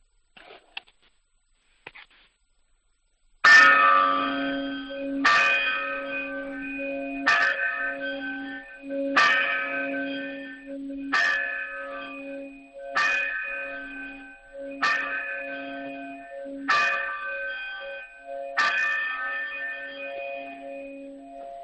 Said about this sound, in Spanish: Van a ser buenos días, de la mañana que suenen ya las campanas desde Valdelosa.